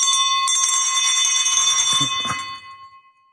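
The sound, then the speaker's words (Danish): A bell is struck to open a meeting and rings out loud, its bright sustained tone shimmering with overtones before slowly fading away over a few seconds; no one speaks. “Denne klokke signalerer, at de næste to timer, der skal vi tale om dansk politik, ugen der er gået, og som sædvanligt er der virkelig noget at tale om.”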